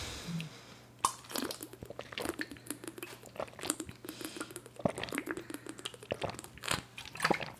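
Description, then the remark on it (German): A plastic water bottle crinkles and clicks as it's opened, followed by a run of gulping and crackling sounds from someone drinking, with no talking. “Also ich habe Wasser gekauft. Das erste Mal seit langem habe ich mir einen Wasserkasten gekauft mit einer Wassermarke, die mit G anfängt.”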